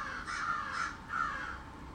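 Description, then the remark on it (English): Crows cawing, played back from an online video, in a series of harsh, repeated calls, a couple of overlapping caws spread across two seconds, fairly quiet, with no one talking. “These are YouTube crows, but they were somebody's crows.”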